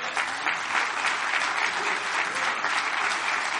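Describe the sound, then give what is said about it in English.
A church audience bursts into sustained applause as a clap offering, dense overlapping claps holding at a steady loud level throughout with no voices standing out. “Let's give a clap offering to him.”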